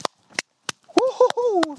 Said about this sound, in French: Je suis seul à applaudir dans la forêt. C'est un peu bizarre du coup.